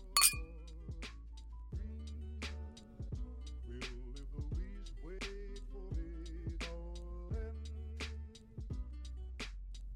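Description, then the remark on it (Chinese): Glasses of alcohol clink together as two people toast, with a bright, ringing chime at the start followed by a string of lighter clinks over a steady tonal background. “来，干杯。”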